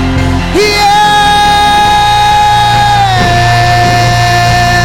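audience shouting and clapping

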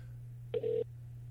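telephone dialing tones

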